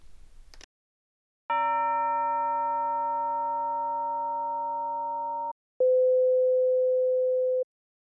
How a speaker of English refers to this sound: In the following, you will hear the same chime tone 4 times. Each time, it will be followed by a pure sine tone of different frequency.